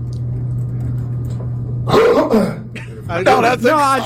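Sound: throat clearing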